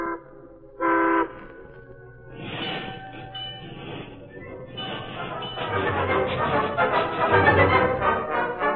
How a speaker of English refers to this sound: Then the train rolled on.